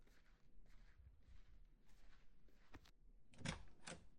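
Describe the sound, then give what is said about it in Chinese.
Soft footsteps draw near, then a sharp metallic click and rattle as the latch of a home's front door turns and the door is pulled open, moderately loud, with no one talking. “你别这样，我这就来开门。”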